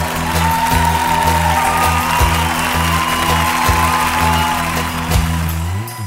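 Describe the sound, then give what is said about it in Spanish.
An audience claps and gives a joyful shout to the Lord in a steady, dense roar that lasts throughout, over sustained keyboard chords holding underneath. “Los que somos más que vencedores en Cristo, demos un grito de júbilo al Señor.”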